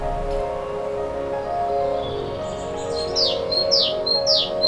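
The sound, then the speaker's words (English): A sparrow-sized songbird with bright yellow underparts, a black stripe down the middle, a black head with a white cheek and a greyish blue back calls repeatedly, a run of bright, high chirps arriving in quick succession over a steady wash of outdoor background noise. “It's a bird, it's about the size of a sparrow. It's got most noticeably a bright yellow underparts with a black stripe down the middle, black head with a white cheek, and a sort of greyish blue back.”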